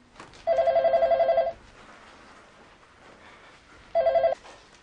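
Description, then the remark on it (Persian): A telephone rings in two bursts of rapid bell trills, a longer ring followed by a shorter one after a pause, loud over a faint background. “تو اصلا به مردم بگو ببینم بدهکاری تو دانشگاه که تلفن جواب نمیدی؟”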